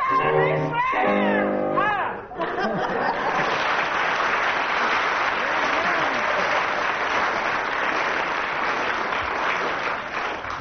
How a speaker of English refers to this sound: Judging from the audience applause there, Tim gets 9 out of 10.